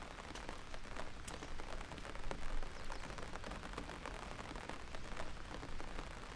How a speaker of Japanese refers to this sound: どうしよう。もうお家帰る？雨強くなりそうだけど。